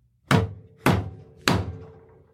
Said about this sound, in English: I don't really know why I'm banging on the... I mean, it just kind of... Table was called for, but it was called for. Seems right.